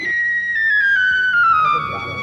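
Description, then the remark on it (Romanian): A whistle sounds one long, unbroken note that slowly slides downward in pitch, fairly loud, over a faint murmur of background noise. “Ce se aude? Un fluier, augustitate.”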